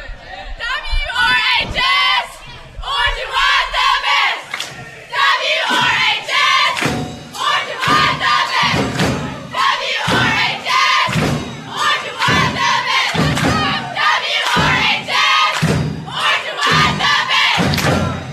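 A Walnut Ridge High School cheer dance squad chants and shouts together in loud, rhythmic bursts at a football tailgate to get ready for the game that night, with sharp claps or thumps punctuating the group yells, energetic throughout.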